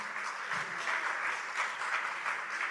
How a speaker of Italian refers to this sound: Allora, io non voglio fermare mai gli applausi, quindi voi fateceli arrivare, perché...